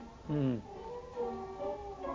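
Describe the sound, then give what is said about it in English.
A fluffy cat gives one loud, drawn-out meow that falls in pitch, followed by quieter, wavering mewing sounds. “I love that cat.”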